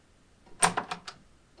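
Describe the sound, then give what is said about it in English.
A door opens with a short burst of latch clicks and rattles, four quick knocks fading over about half a second, against quiet room tone with no one speaking. “This door? Yes.”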